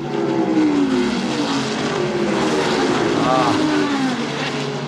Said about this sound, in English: Indy car's going 220 miles an hour.